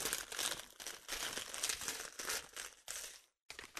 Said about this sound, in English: Let me crunch this bag real quick.